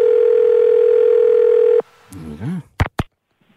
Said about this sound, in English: Can we ring this person? Can you ring, please? Okay. Well, I'll just put the numbers in the phone here, and let's just ring this person here now.